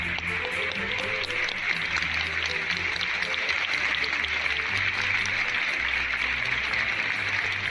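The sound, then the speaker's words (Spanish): Sustained applause from a large crowd in Valladolid bidding farewell to the artist Concha Velasco, a dense, even wash of clapping that holds steady at full strength throughout, with a faint low rumble underneath and no voices standing out. “Y con esos aplausos, Valladolid ha despedido hoy al artista Concha Velasco, donde esta mañana sus restos mortales ya descansan en el Panteón de Ilustres, en el Cementerio del Carmen de Valladolid.”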